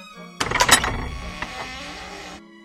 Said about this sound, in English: She was so frightened, she shut the door as fast as she could and ran back to her seat.